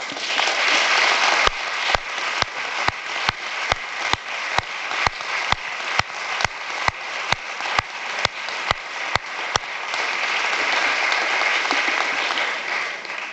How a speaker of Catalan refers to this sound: Per ells, que fan una tasca extraordinària, els hi demano un fort aplaudiment.